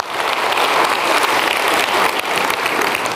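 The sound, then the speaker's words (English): A crowd applauds steadily for graduates, a dense, even wash of many hands clapping at a fairly loud level throughout, with no voices standing out. “Yeah, let's clap for the graduates.”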